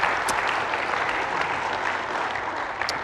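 A crowd applauds a family for being willing to share their story, clapping steadily in a dense, continuous wash, many hands overlapping at an even loudness for a few seconds with no voices heard.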